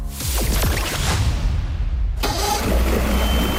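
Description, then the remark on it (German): A motorboat engine cranks and catches, then settles into a steady, loud, throaty idle with a constant low rumble; there's no talking. The motorboat is heading out onto the Adriatic Sea. “Mit dem Motorboot geht's raus aufs klare blaue Wasser der Adria, vorbei an Fischerorten, dahinter grün bewachsene Felsen.”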